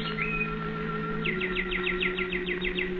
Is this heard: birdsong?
yes